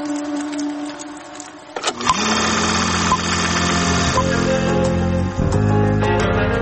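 A film projector starts up and runs with a steady mechanical whir and rapid clattering hum, loud and continuous after a brief, quieter tonal lead-in.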